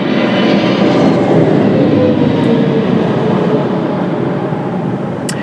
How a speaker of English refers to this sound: There's a big jet. I'm gonna have to get some pictures here.